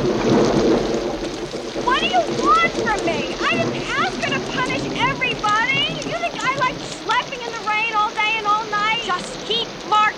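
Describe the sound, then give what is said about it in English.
Steady, heavy rain hisses throughout, with a low thunder rumble near the start, while several voices of women marching in an army platoon chant or call out over the downpour. “Here's a scene where you're marching around in the pouring rain with other women from the platoon.”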